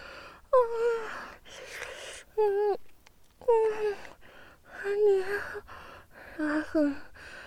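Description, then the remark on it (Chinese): Heavy gasping breaths repeat in quick succession, each a short voiced huff with a rising-falling tone, fairly loud, with no words spoken. “你突然变得好可怕啊！喘息这么剧烈，脸还这么红。”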